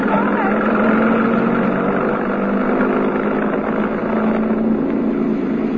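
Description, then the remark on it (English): A truck engine roars loud as the truck comes straight down an alley from outside a stage door, a steady heavy rumble that holds at an even level throughout without fading or passing by. “There's a truck parked outside the stage door. Hey, it's coming straight down the alley.”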